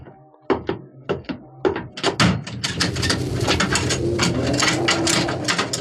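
The bolts on the door of a shack clank and slide shut in a quick series of sharp metallic knocks and scrapes, loud, followed by a steady rattling, grinding noise that carries on to the end.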